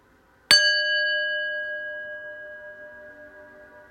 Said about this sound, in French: Tranquillement, pour sortir de cet exercice, je vais écouter le son du gong jusqu'au bout.